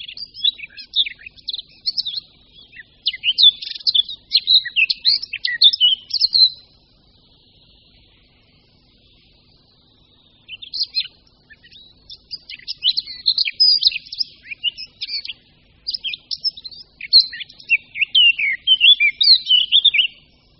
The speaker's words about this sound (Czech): Jeden z nejkrásnějších a nejhlasitějších ptačích zpěvů, který u nás můžeme slyšet, patří pěnici černohlavé. Přitom to není zpěv právě vzácný. Naopak v poslední době se stal i jedním z nejčastějších.